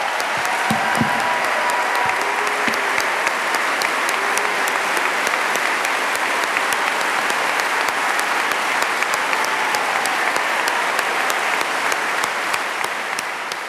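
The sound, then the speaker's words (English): Sustained, dense applause from a massive crowd at the Adelaide Town Hall, gathered to see Dr. Randa Abdel-Fattah, steady and loud throughout with many overlapping claps and a few faint vocal cheers. “The sound of a massive crowd at the Adelaide Town Hall earlier this month to see Dr.”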